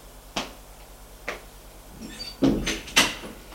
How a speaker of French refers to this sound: On frappe à la porte et on fait entrer.